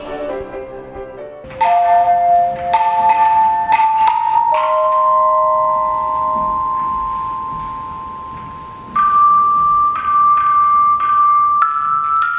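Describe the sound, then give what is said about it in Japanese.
Tone chimes played by third- and fourth-grade schoolchildren at a school friendship assembly ring out in long, sustained, pure bell-like notes, with new strikes entering every few seconds and overlapping as earlier tones fade, a slow melodic piece practiced for a joint concert. “3、4年生の皆さんは合同の演奏会に向けて練習した3曲を歌とトーンチャイムなどで立派に演奏しましたよ。”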